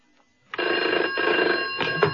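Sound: bell ringing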